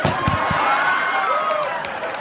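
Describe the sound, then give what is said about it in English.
An audience claps steadily for about two seconds after a comedian's joke about a serial rapist in Houston, a dense wash of hand claps mixed with a few voices calling out, holding at an even loudness throughout. “I can't believe you clapped about that.”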